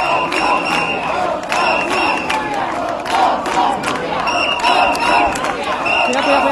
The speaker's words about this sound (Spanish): Afuera le esperaba un grupo de manifestantes que con pancartas y gritos le recriminaban su comportamiento.